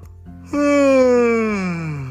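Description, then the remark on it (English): A big, drawn-out voiced yawn rises suddenly and then slides slowly downward in pitch, loud, sounding like someone acting out a long sleepy yawn while waking up in the morning. “Had a big yawn and went downstairs to eat some breakfast.”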